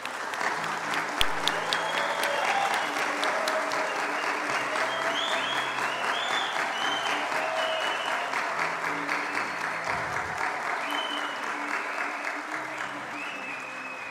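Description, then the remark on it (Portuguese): Sustained applause from an audience at a ceremony awarding the title of São Bernardo citizen: a steady, dense patter of many hands clapping at an even loudness for the whole stretch, with faint murmuring voices underneath. “Uma salva de palmas.”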